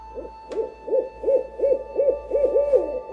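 A rapid run of about eight or nine owl hoots, evenly spaced and fairly loud, each a short rising-and-falling call, with a faint steady hum underneath and no voices.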